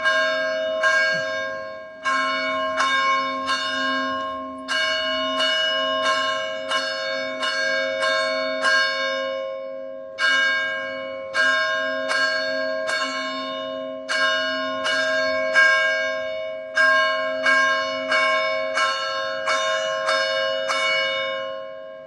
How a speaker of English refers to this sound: There you go. There you go. The church bells.